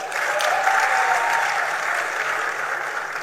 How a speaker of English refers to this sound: You're looking so nice. Please clap for them.